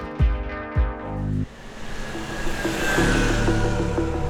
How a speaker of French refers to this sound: Ah, cool, le bus de nuit arrive.